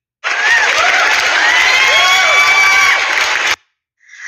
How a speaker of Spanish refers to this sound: Por favor, recibamos con un fuerte aplauso a nuestra primera invitada